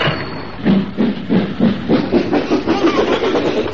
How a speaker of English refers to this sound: Here comes an empty train now.